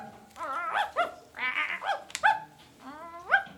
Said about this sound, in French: Chien qui court? Non, il est trop mignon ce toutou. Tu veux venir jouer avec moi?